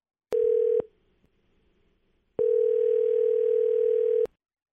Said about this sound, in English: The phone's been ringing here for a second, so.